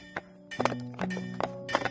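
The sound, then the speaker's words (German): Sharp, irregular knocks that resemble hoof clip-clop mix with ringing metallic hammer blows and heavy chopping thuds. The strikes come in uneven bursts, moderately loud, with no voices. “Ein Schmied, ein Holzfäller, ein Pferdestall, alles gleichzeitig, alles surreal.”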